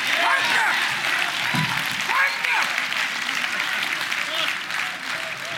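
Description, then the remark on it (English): An audience claps their hands in steady, sustained applause filling the room, with voices calling out underneath the dense clapping throughout. “And if he's still God, you ought to clap your hand.”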